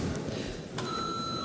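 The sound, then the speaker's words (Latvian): A steady electric bell in the chamber of the Latvian parliament (Saeima), called for before a vote, begins ringing partway through and holds a continuous, sustained tone over faint room noise, at moderate volume. “Lūdzu zvanu.”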